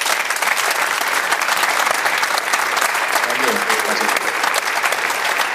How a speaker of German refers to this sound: Grüße und Applaus für Freddy Bobic.